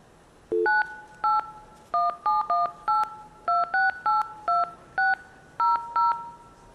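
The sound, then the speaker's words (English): A quick run of about fourteen short, steady two-tone beeps in an uneven dialing rhythm, opened by one brief lower tone: blue box phone signaling tones made with the whistle known as the Captain Crunch whistle. The pitched tones are loud and clear, with no voices. “What I'm about to do is use a whistle that famously was known as the Captain Crunch whistle.”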